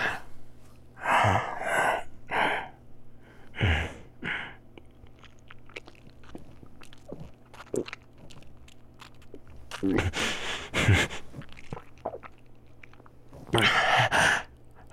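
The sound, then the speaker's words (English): A wet bite followed by slow gulping and slurping mouth sounds as a vampire drinks blood from a neck, taking three gulps, broken up by a few heavy, breathy gasps at intervals, with no talking. “See, I only took 3 gulps this time.”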